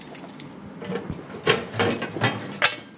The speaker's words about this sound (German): Nicht nur die Beamten klappern mit schweren Schlüsseln, auch Gefangene nesteln an ihrem Bund.